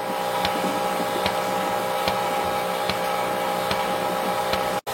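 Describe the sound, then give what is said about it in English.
A milking machine's vacuum runs with a steady, loud mechanical hum while milking, milk coming in one line and air vacuum going out the other, punctuated by faint regular pulsing clicks roughly every second. No one speaks, and the sound cuts out abruptly at the very end. “As you can see, the milk comes in one and this is the air vacuum coming out the other.”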